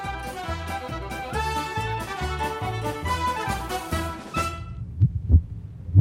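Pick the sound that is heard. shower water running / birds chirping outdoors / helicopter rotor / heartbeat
heartbeat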